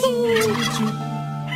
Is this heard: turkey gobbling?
yes